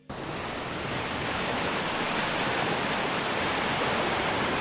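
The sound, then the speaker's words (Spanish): A dense, continuous roar of rough surf on the Cantabrian Sea in Cantabria, Spain, loud, forming a steady wash of crashing water with no distinct breaks between waves and no voices. “Hablábamos de su lluvia y del mar bravo, seguro el cantábrico. Este sonido es muy, pero que muy relajante.”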